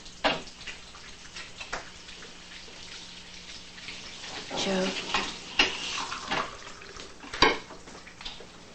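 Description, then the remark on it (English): Coffee is poured from a pot into two cups at a kitchen table, a splashing liquid stream rising midway, with sharp ceramic clinks of cups and the pot set down on the table. “carries a coffee pot to the table, and pours two cups of coffee.”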